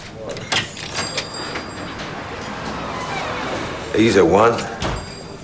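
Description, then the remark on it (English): A cafe's glass door thuds and rattles open as a man heads outside, then swings shut with a soft knock, amid a steady background murmur and a brief voice near the end. “He stands up and stares down at Jimmy with a knowing smile, then heads outside.”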